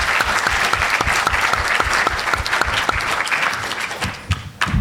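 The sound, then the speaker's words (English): Sustained applause from an audience at an evening reception before dinner, thanking two people, dense overlapping claps at steady volume for several seconds, with no voices standing out. “And I just want to thank both of them, maybe a round of applause again, for getting us to this point.”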